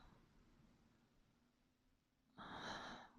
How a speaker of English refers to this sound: The sound of you gasping for air like that.